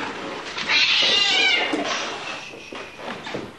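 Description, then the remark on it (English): Many cats hoarded by a woman in her home, some 50 to 60 animals being spayed and neutered, meow and yowl at once. They make a loud, overlapping chorus of drawn-out, wavering cries with a harsh caterwauling edge, continuous throughout. “you enter the home of a woman who hoards cats.”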